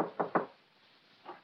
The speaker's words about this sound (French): Mais frappons à sa porte.